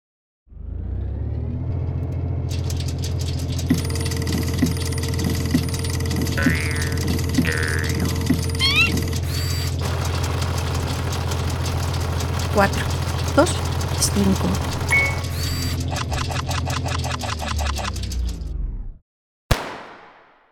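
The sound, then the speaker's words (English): A random number generator rattles loudly, humming and clattering steadily for nearly twenty seconds, cuts out abruptly, and a sharp electrical bang follows as the electrical connector for its vacuum tube explodes, a single burst that quickly fades. “At first, that bang sounded like another vacuum tube blowing up inside the random number generator, but that's not what happened.”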